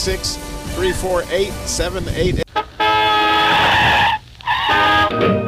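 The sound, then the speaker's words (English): An old jalopy horn blares in two long, loud, brassy honks, the first held over a second. Before them comes a busy, sputtering, voice-like rattle of an old car engine. “You women have heard of jalopies. You heard the noise they make.”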